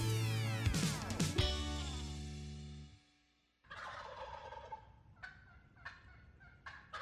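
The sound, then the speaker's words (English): A tom turkey gobbles loudly, a rapid rattling burst, then after a short pause gobbles again with several shorter calls over a breezy outdoor background. “Do you love hearing that old Tom sound off while you're in the field?”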